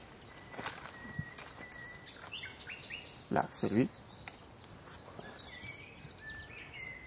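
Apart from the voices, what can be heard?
common nightingale singing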